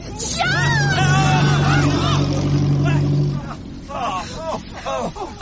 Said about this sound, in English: The car's still coming